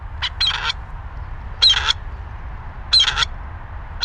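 A male grey partridge's harsh, rasping call, played from a loudspeaker used as a sound decoy to imitate an intruder in a partridge territory. It repeats three times at regular intervals, each a grating burst of squeaky notes over a low steady rumble.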